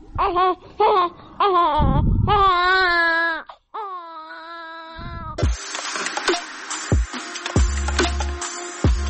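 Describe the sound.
A baby cries in a string of loud, high wailing bursts, then the crying fades into a busy, noisy background with muffled voices and clatter.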